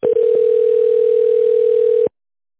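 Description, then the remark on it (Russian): A telephone ringing tone plays while a call to the company IntelTrade connects to an operator: one steady, mid-pitched electronic tone held for about two seconds, preceded by a few quick clicks, then it cuts off to silence. “Соединяюсь с оператором.”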